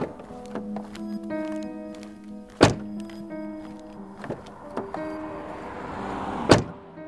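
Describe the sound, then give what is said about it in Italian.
Two solid car door thunks as people get into a car, one around the middle and one near the end, each a sharp slam, over a steady tonal hum with a few softer knocks between them. “Forse andiamo in macchina. Andiamo in macchina. Entriamo”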